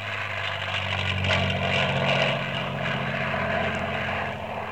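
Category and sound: vehicle, airplane flying overhead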